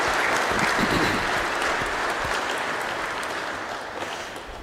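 An audience at a Mother's Day church service breaks into steady applause for mothers, a dense wash of many hands clapping that holds strong for several seconds and then slowly tapers off, with no one speaking.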